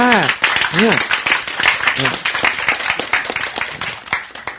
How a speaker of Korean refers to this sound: 박수 하실 때,